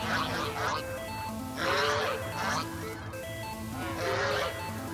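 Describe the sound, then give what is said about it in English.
A large flock of ducks calls noisily overhead, harsh quacking swelling in repeated bursts over a steady low rumble, loud and close, with no clear wingbeats standing out. “You look up and realize that hundreds, if not thousands, of ducks are descending on Kirkcaldy Reserve, desperate for a sample of these seemingly irresistible seeds.”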